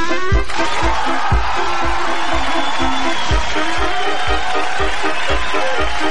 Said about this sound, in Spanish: Señoras y señores, el aplauso para los trapecistas.